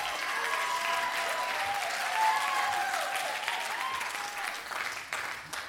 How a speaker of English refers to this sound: Man, great worship set. The worship team, can we just give them a round of applause?